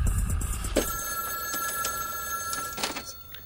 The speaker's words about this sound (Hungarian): Csöng a telefon, bárki lehet. Mégis muszáj felvenni a kagylót, nem?